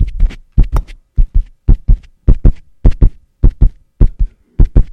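A baby's heartbeat recording: loud, rapid thumps arriving in steady doubled pulses, about two beats per second, with a faint whooshing between them and no voices.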